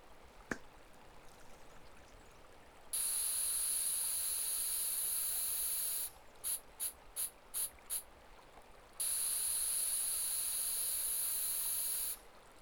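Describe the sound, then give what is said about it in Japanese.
An aerosol spray is applied to a fishing fly tied with seal fur and waterfowl feathers. The can hisses in a long steady spray, then five short rapid bursts, then another long spray, bright and high-pitched with a brief tick before the first. No one speaks. “あ、今マコが吹いたのはスプレー。フライに吹きかけると水を吸いづらくなって長い時間浮いてられるようになるんだって。”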